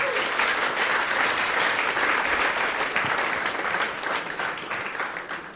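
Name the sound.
audience applause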